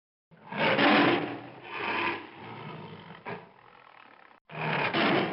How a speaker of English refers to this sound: Roar just like a tiger with a thorn caught in his toe.